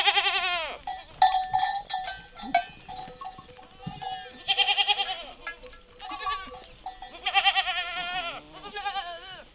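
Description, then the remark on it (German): Several goats bleat repeatedly, their wavering cries rising over a steady jangle of shepherds' metal herd bells, with no voices present. “Auf diese Weise erkannten sie ihre Herden und waren in der Lage, verlorene Schafe oder Ziegen im Unterholz zu finden.”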